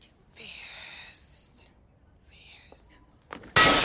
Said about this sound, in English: smashes a flower vase with the golf club. Daring, unexpected, exhilarating. That's fierce.